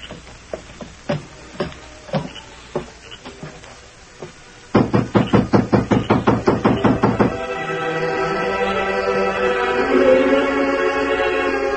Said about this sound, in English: Inside, when Miller heard the knocks.